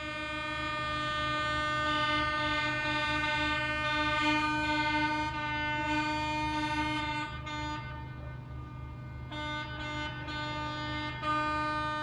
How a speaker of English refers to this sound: When I woke up to this sound one morning last winter, I thought maybe something was blocking traffic on my street. I looked out the window to see sanitation trucks lined up between my house and the nearby elementary school.